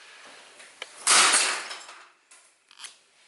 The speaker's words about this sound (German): aber ich probiere mal jetzt den Blumentopf zu zerbrechen, mal schauen, ob es geht.